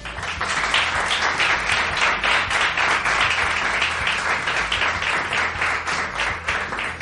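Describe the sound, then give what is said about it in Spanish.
An audience at Bar de Blas claps steadily for several seconds to welcome two quiz contestants, a dense, sustained wash of applause with no pauses, holding an even loudness throughout. “Recibamos con un caluroso aplauso”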